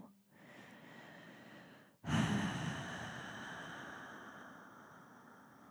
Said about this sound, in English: sit up straight and tall like a tree, and just breathe. Focus on your breathing.